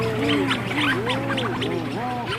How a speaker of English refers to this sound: And that one is where you have really, really, really loud mooing, and then there's a couple hootalootus tossed in there from the storm petrels.